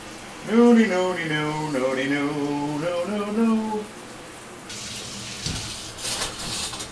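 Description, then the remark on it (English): A shower runs with a steady hiss of spraying water, while a voice hums a wordless tune over it for a few seconds before the water carries on alone. “All right, so I'm getting in the shower.”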